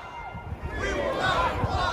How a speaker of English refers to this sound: Militias started to arrive, playing a fanfare of trumpets and drums, carrying flags. This is a very tightly packed crowd.